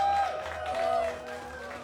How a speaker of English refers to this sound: Big round of applause for the snowy owl, I think.